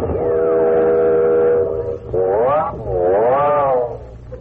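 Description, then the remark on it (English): A train whistle sounds loud as the train approaches a station, first as a long steady blast, then two shorter wavering calls that swoop up and down in pitch over a low rumble of the moving train. “I wonder what that whistling's for. We must be coming to another station.”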